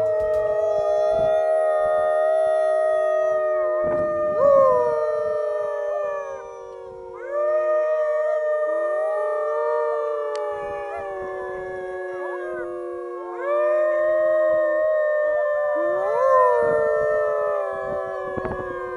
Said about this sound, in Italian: 10 dicembre, monitoraggio del lupo nell'alta valle del Tramazzo. Ed ecco quello che può capitare di sentire in una di queste sessioni.